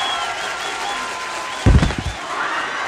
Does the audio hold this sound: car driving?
no